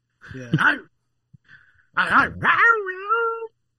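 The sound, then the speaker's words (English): A person imitates a dog, letting out a short bark-like yelp, then after a brief pause a couple more barks that trail into a drawn-out, falling whine, fairly loud. “I'm fucking going. Start barking.”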